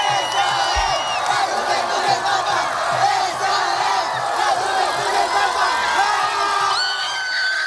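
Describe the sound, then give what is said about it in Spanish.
A crowd of thousands of young pilgrims cheers and shouts continuously for the Pope along the Via della Conciliazione at the Vatican, a dense, loud wash of overlapping voices and whoops that stays steady throughout without any break. “El Papa dio la vuelta a la plaza de San Pedro y después recorrió la Vía de la Conciliación, la gran avenida que da entrada al Vaticano, donde los miles de jóvenes pues le estaban aclamando y gritando y ovacionando con entusiasmo.”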